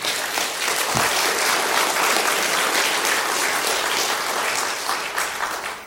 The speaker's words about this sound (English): And so let's give the Lord one more round of applause.